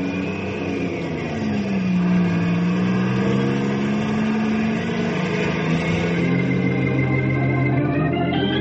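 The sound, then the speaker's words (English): A truck engine drones steadily for several seconds with no talking, its low growl wavering up and down in pitch as the truck pulls away and keeps rolling, heading down to the warehouse. “I'm gonna ride in the truck down to the warehouse.”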